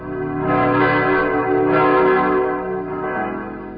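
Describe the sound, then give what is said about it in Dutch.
Deep, heavy church bells of the tower in Maldegem ring together in a dense, sustained wash of overlapping tones, swelling and fading in slow surges. No one speaks. “En sidderen zijn stenen onder de dreun van zijn zware klokken, de stem voor levenden en doden.”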